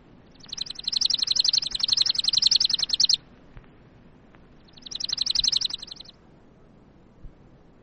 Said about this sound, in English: Chipping Sparrow.